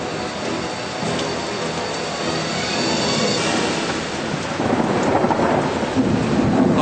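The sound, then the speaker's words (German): A deep, continuous rumble of thunder rolls through a storm, swelling and growing louder toward the end, with a steady hiss of rain underneath. No one speaks. “Der Blitz erreicht also unser Auge früher als der Donner unser Ohr.”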